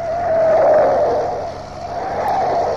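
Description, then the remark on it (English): A car engine roars loudly and steadily, its pitch swelling then easing as it speeds around a corner, with a faint tyre squeal mixed into the continuous rush. “Didn't I keep telling you to slow down? Now look what's happened. I'll have to stop. Get around this corner.”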